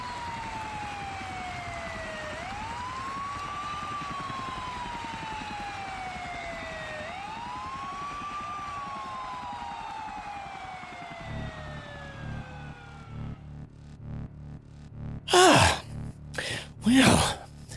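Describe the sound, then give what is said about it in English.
Emergency sirens wail in long, repeating rising-and-falling sweeps, fairly steady in loudness, then fade as a low rhythmic thumping of helicopter blades takes over, followed by a few short, sharp breathy bursts. “oblivious to the faint sounds of sirens and helicopter blades, getting louder, closing in.”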